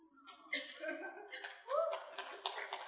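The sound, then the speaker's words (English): An audience breaks into scattered applause mixed with chuckles and murmuring voices, the clapping swelling toward the end of the brief burst and sounding moderately loud. “It's not worth an applause, but thank you very much.”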